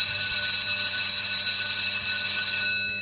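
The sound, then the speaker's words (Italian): A bell at a door rings in one continuous, loud, high-pitched peal for nearly three seconds, then stops and its tone fades away quickly. No voices are heard. “Corre, corre, suona sta tronfa, o vedi sta porta e suona sta campana.”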